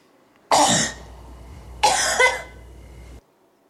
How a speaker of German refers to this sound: wir sagen zwischen jedem Huster nochmal Huster 1, Huster 2, Huster 3 und so weiter